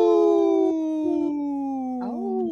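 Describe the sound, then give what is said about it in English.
A person on the Native Roots Radio show imitates a wolf howl: one long, loud, sustained wail that slides slowly downward in pitch, then a brief wavering rise near the end before fading off. “Okay, we had one of the comedians howl”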